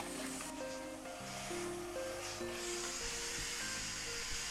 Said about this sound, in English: Sounds great, doesn't it? The sound of steam.